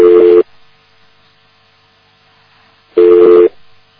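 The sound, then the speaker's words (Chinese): A phone line tone sounds after a dropped internet phone call: two loud, steady electronic beeps, each about half a second long, spaced roughly three seconds apart with near silence between them. “可是网络电话就这么差劲，一下子这么来了。”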